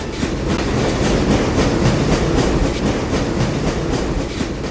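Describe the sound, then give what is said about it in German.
A train rolls steadily along the rails, its wheels making a continuous rhythmic clickety-clack over a dense, rumbling roar. The sound is loud, with no voices. “Vielleicht wäre es jetzt ganz passend, wenn Sie uns erzählen würden, wie 2 ungewöhnliche Eisenbahnzüge zum Fortschritt der russischen Revolution beitrugen.”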